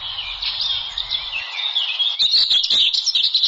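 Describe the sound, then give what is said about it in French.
A dense chorus of birds in a forest at Yangambi chirps and trills continuously, bright, with overlapping calls forming a steady ambient backdrop and a few sharper clicks near the end; no one speaks. “Caressé par ses refrains d'oiseaux à la recherche d'Aphromosia”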